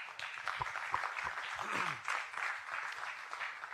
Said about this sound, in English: But in any case, another applause to her wouldn't be too much.